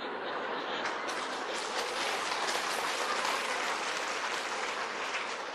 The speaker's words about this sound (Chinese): 你呢个掌声我又有啲怀疑。